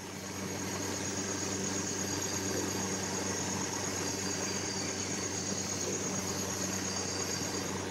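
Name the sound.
boat engine running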